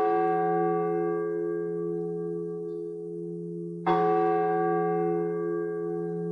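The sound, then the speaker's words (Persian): A loud, resonant bell rings twice like an old clock chime, heard at the front door of an old two-storey house with a tree-filled yard. The first stroke rings out long before a second strike at nearly four seconds, both with rich, sustained overtones and no voices. “از بین کلیدها دنبال کلید در ورودی بودم که یه صدای نسبتاً بلند دینگ دینگی شبیه به ناقوس یا زنگ ساعت‌های قدیمی شنیدم.”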